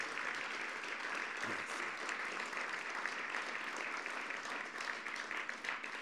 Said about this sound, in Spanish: Siempre Batato Varea me decía, déjate aplaudir.